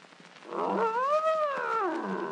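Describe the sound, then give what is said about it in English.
A bear gives a single loud, drawn-out growl, rising into a throaty roar and then sinking away, with no voices around it. “Nice bear. Good old bear.”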